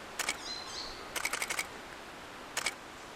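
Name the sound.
camera taking a photo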